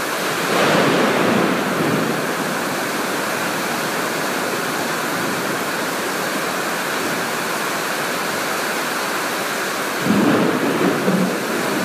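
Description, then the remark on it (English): A steady thunderstorm in Malaysia with heavy rain hissing throughout, as deep rolling thunder rumbles at the start and again near the end, loud, with no voices. “If you're wondering, am I nervous that I might be hit by lightning? I am.”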